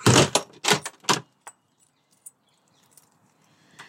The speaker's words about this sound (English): So this is me putting my shoes on and getting out of the door.